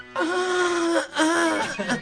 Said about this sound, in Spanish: Entran a su casa, abren la puerta, tocan la tecla de la luz y no enciende. Escuchan en la oscuridad un gemido.